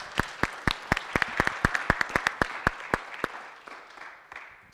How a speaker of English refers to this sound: Well, a round of applause